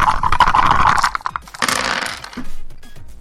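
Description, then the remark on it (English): Dice rattle and clatter inside a cup in a loud, busy shake lasting over a second, then a second burst of rattling before the sound trails off into a few faint clicks. “That's an incredible dice cup, guys.”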